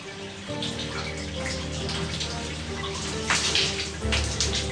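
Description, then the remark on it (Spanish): Hot shower water runs steadily, a continuous hissing spray over a low hum, with a few louder splashes toward the end, as a man scrubs himself in a cabin aboard the Canberra. “Se fregó y se refregó bajo una lluvia caliente.”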